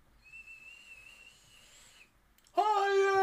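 A thin, steady high-pitched whistle hisses for about two seconds, fades, then a much louder, harsher harmonic wheeze bursts in abruptly, like steam escaping a pressure cooker valve.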